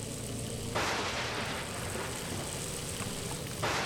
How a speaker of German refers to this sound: Boah, jetzt fängt's aber an zu regnen. Richtig stark sogar. Und da kommt noch ein Blitz. Donner! Hoffentlich trifft er uns nicht.